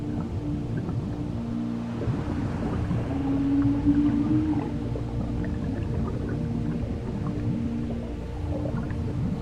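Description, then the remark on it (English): Humpback whale song carries underwater in the warm waters of Madagascar: low, drawn-out moaning tones that swell slightly midway, layered over a constant murky rumble, continuous, with no voices. “Humpback whales journey 8,000 kilometers from Antarctica, crossing half the planet to reach Madagascar's warm lagoons.”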